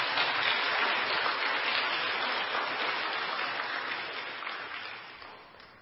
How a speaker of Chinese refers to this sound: 我们再一次鼓掌